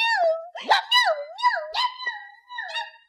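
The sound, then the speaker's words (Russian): A dog gives a quick series of high, yelping barks that slide into whiny, drawn-out tones, about six calls in a row, fairly loud with brief pauses between them. “Я тебе отдам мою гав, а ты мне.”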